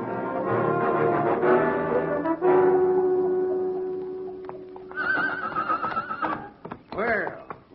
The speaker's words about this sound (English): Well, my gosh, Hoppy, what you got here? I like him, do you, California? I should say so. Prettiest horse you've ever seen.